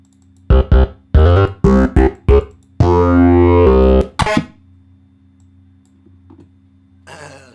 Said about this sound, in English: Usually I always just get them from keyboards. Some good bleep sounds on this keyboard.